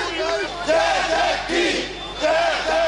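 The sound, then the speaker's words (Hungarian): A large crowd of protesters gathered at City Hall in Miskolc shouts and chants in loud, overlapping waves, some beating on the City Hall door and demanding that the mayor come out, voices rising in rhythmic bursts of collective yelling, with no single voice standing out. “Az összegyűlt tömegből voltak, akik a Városháza ajtaját verve azt követelték, hogy a polgármester jöjjön ki.”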